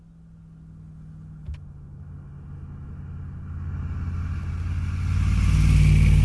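A car engine rumbles steadily and then revs up, its low growl swelling louder and rougher toward the end, with no voices over it.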